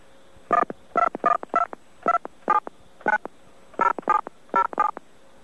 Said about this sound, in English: Please dial the phone number for BAI.